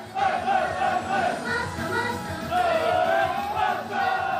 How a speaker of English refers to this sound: It's all kind of sweet and innocent, but what feels a little odd is that, as you can hear, the crowd watching aren't other kids, but grown men. This enthusiastic group, probably 20 to 40 years old, just shouting and singing along incredibly loudly.